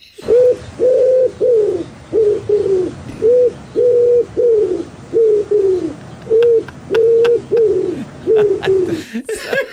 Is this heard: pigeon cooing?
yes